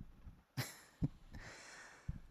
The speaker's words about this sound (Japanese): ん？俺の心音聞いて眠くなってきちゃったの？